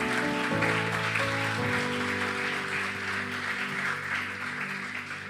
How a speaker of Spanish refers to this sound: Vamos a darle un aplauso a la gente de Choluteca.